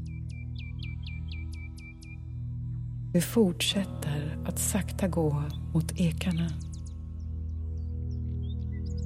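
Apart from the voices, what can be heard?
birds chirping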